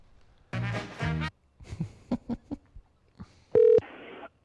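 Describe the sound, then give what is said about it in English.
A phone line rings out in two buzzy electronic bursts, followed by some muffled line clatter and a short, loud tone as the call connects. “Getting a weird phone call is not.”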